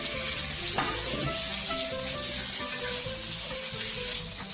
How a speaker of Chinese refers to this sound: 把我们刚刚切的这个蒜末好把它放进去，我们要把它炒到香哦，把这个蒜的这个味道呢炒出来，但是不要炒烧焦啊，烧焦它就苦掉了哦。香味出来了呢，我们把这个 紫排呢，再回锅进去翻炒一下。